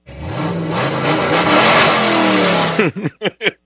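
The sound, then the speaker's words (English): A car engine revs loudly and steadily for nearly three seconds, its pitch climbing, then cuts into three short, sharp blips of the throttle. “I think I'll tell you about my car, the sadist.”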